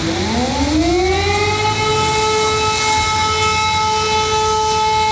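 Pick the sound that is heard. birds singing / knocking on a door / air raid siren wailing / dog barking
air raid siren wailing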